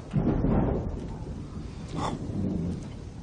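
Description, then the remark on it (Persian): A low, rolling rumble of thunder in a lightning storm swells in the first second, then fades into a softer, continuing grumble with a brief brighter burst near the middle, heard alone without voices. “رعد و برقم مگه ترس داره؟”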